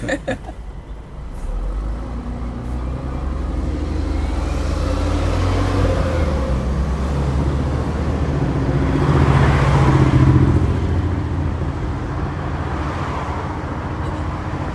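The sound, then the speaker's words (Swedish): Steady, continuous roar of road traffic on Munkbroleden, the through-route around Gamla stan in Stockholm, with vehicles passing and one louder pass swelling around the middle; no voices, just dense engine and tire noise throughout. “Det här är trafiken på Munkbroleden, alltså genomfartsleden runt Gamla stan i Stockholm.”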